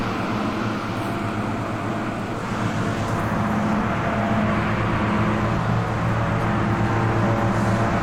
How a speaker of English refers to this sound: So in the loud noise is the air conditioning unit to cool this, is that right? Exhaust fans.